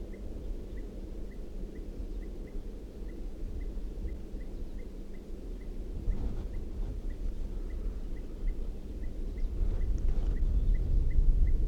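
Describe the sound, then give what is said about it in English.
A female bird gives a steady series of short, sharp alarm calls, repeated at a quick regular pace, over a constant low rumble of wind or background noise. “Alarm calls from the female.”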